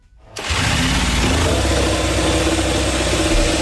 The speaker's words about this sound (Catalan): O sigui, ara sentirem un efecte de moto, de xifreria. Sí. A veure si vosaltres creieu que és moto de MotoGP o de competició... O no. O és una moto de pizzero. Arrancamos.